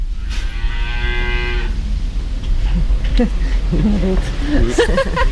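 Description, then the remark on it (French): A dairy cow on a farm with 95 dairy cows gives a long, loud moo, then the barn settles into a steady low rumble as a person starts talking over the farm ambience. “Ils ont 95 vaches laitières et 145 hectares de céréales.”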